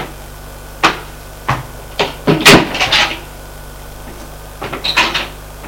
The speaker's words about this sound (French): Sortons de la cuisine. Allons ouvrir une porte qui est à côté de l'armoire.